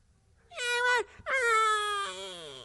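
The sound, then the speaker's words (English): A voice imitates a whining newborn, drawing out two long, high, wavering wails with a short break between them, fairly loud, the second sagging lower at its end. “And then the whining stopped. Talking about the newborn babe in Christ.”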